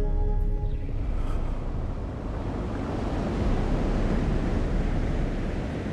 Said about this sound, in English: You have 52 unique recordings of the ocean. Is that right?